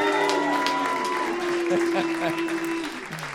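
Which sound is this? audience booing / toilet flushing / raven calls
audience booing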